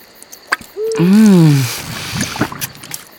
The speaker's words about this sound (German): Hinten ragte ein dickes Rohr mit einem Schraubverschluss heraus. Aus diesem tropfte eine zähe Masse auf den Boden.